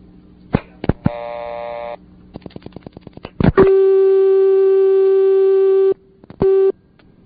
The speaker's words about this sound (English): If you dial 9 on the Leich PBX, it connects with the CX100. So let's dial 9. We'll get the dial tone from the CX100.